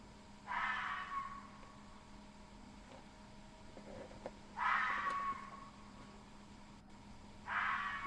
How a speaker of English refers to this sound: Now, let's go to some fox calls.